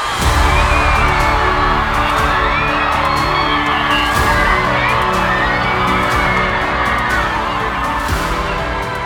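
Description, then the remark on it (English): A crowd cheers and whoops loudly and without pause during a total solar eclipse, many voices shouting and hollering together at a steady, dense level, with occasional higher yells rising above the roar. “I am sure, even if the weather is a bit cloudy as it was in Nebraska 7 years ago, that there will still be cheering.”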